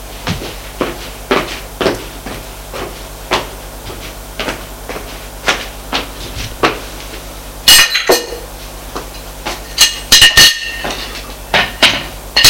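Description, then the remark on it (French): Repeated sharp, hollow knocks on a door in an uneven rhythm, broken by a couple of louder, rattling bursts partway through. No one speaks. “Frappe à la porte.”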